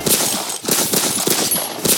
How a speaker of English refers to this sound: Travelling home after a visit to the grandparents, a husband puts his wife's favourite song on the radio. As he presses play, his ears ring with the sound of bullets.